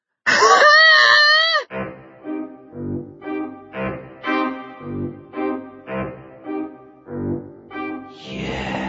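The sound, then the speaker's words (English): A woman lets out one loud, piercing scream lasting over a second, then breaks into a rapid series of rhythmic, moaning sobs that continue to the end. “Beryl found her voice. She screamed.”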